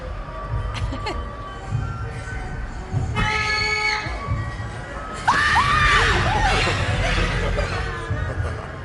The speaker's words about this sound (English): I just wanted to scream for effect.